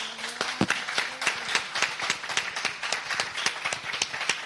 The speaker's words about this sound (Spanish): Me encantaría, por favor, un aplauso para celebrar el Día de la Radio, sobre todo un aplauso para la gente que está al otro lado, para los oyentes, que son los auténticos protagonistas, yo creo, del Día de la Radio.